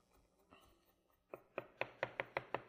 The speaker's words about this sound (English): So we're going to chop this up. Normally at home, I would actually put this in a coffee grinder. I've got a coffee grinder just to do things like this.